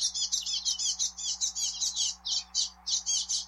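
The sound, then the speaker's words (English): Finch chicks chirping in a rapid, high-pitched stream of short, buzzy calls that run almost continuously with a few brief gaps, over a faint steady low hum. “So perhaps mouth markings evolved due to competition for food between finch babies and those other bird babies.”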